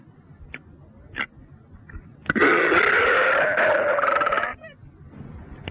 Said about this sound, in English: What's an example of one of your belches that have killed the machines? Well, hold on a second, and I'll demonstrate.